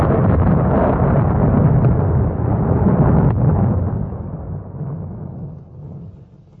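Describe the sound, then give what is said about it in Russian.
Right after a bright flash of lightning, a loud, deafening crack of thunder bursts into a heavy, booming rumble that rolls on for several seconds before slowly fading away. No voices are heard. “Оглушительный раскат грома заставил всех вскочить на ноги,”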